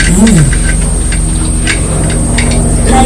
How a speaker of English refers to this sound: That sounds like a helicopter now. Oh, it is, isn't it? Can you see it? Yes, I can. Can you? I can't for the building. Oh, yes, wow. Where do you think that's going to? That's a police helicopter.